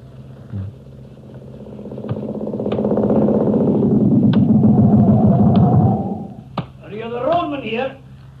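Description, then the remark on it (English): A motorcycle engine rumbles up to a steady roar for a few seconds, then cuts off abruptly, followed by a brief spoken voice. “Go right into the motorcycle.”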